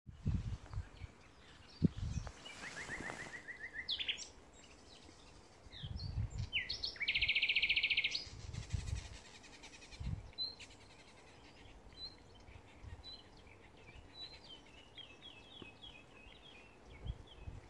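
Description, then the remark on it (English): Birds sing and chirp in layered bursts across a lively forest soundscape, with a steady high trill near the middle, low rustling thumps of leaves below, and no voices. “Became with birds singing and leaves rustling.”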